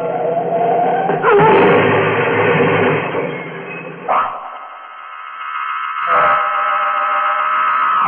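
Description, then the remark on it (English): A car crashes into a tree: a roaring, rattling burst of noise with a sharp impact early on, settling into a steady droning blare with a couple of softer jolts, loud. The bumper takes most of the shock and one fender is crumpled. “I'd slid forward under the wheel when the car hit the tree.”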